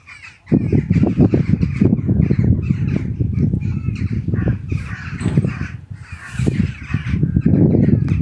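Birds call noisily and almost continuously after a brief quiet start, their dense, overlapping, harsh calls loud, with no voices present; the first birds of the morning, chirping at about 7:30 a.m.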